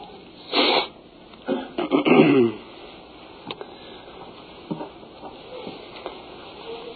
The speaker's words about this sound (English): I've had this lingering cough for some time, and it is very annoying to me, and I would imagine that as someone is speaking, if they have to cough too much, that it becomes annoying